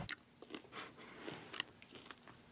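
Someone bites into dough-covered roast peacock, then chews with soft, irregular crunches and wet mouth sounds, fairly faint, with no talking.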